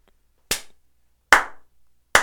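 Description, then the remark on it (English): Three sharp hand claps and slaps, loud, spaced unevenly about a second apart, each with a brief ringing decay and no voices. “Was that your slaps and claps? Are you giving them right now?”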